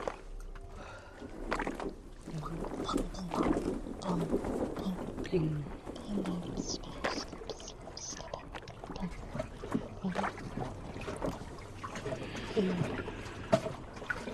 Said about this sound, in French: En position de foetus, le pavillon de mon oreille est collé à la paroi. J'entends un clapotis incessant, un son qui roule et résonne dans tout le bateau tambour. L'eau joue pour moi un baume cicatrisant.